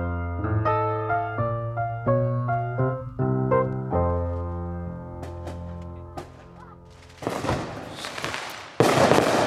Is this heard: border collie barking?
no